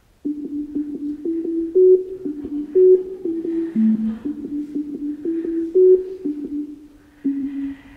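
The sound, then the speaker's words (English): A simple familiar tune of pure electronic tones plays alone, each note struck cleanly in a steady rhythm, all pitched within a single narrow octave range, moving up and down in small steps. “So now here's this very same tune, except that now all the tones are in the same octave, and you should be able to recognize this without any difficulty.”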